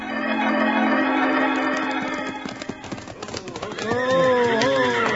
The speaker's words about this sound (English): And now, Abner, Wild Bill, and Jingles are reining up their horses near the schoolhouse steps.